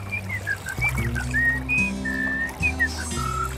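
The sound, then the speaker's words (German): On a lonely island, a white sheep whistles a string of short, high, birdlike chirps that rise and fall in quick succession, set over steady low sustained tones in the background. “Wie schön die Vögel singen. Ich bin aber kein Vogel. Sondern ein weißes Schaf.”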